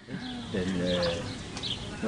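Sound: birds chirping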